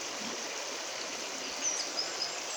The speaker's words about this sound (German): Ja, ungefähr 1,5 mm kalt das Wasser. Aber sehr schön und wild romantisch hier. Ich hoffe, man hört das Wasser rauschen.